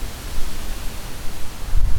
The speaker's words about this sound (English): I think we better go out here in the street. Yeah, let's do. And it's not raining too badly yet. Windy. Very windy.